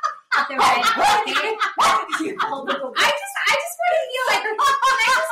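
A dog barks and yips in rapid, overlapping bursts, loud, keeping up an almost continuous excited racket for several seconds.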